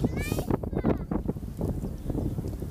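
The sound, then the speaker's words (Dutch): Steady wind outdoors on a cloudy day buffets the microphone with a loud, low rumble that fills the whole stretch, while muffled talking sits partly buried underneath. “Waarschijnlijk hoor je door de microfoon de wind wel.”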